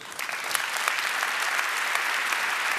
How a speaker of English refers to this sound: A very warm applause.